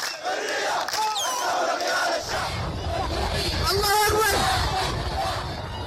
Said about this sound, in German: Familiar slogans from the Arab Spring are now echoing across Sudan.